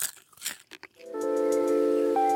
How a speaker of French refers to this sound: Littéralement, le mot pitsurim pourrait se traduire par craquement. Et il désigne le son qu'on entend quand on croque dans une noix, une cacahuète ou une pistache.